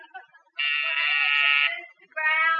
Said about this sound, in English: When you put that buzzer system in, you done got it in backwards. You put the button in her office and the buzzer in here in yours.